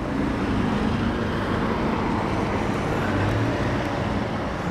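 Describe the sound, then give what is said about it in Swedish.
Steady, dense roadway noise with the low rumble of two large blue double-decker SL buses passing in opposite directions on Valhallavägen in Stockholm, engines droning under a continuous wash of traffic with no talking. “Här var det ett par stora blåa dubbeldäckade SL-bussar som körde förbi på två olika håll.”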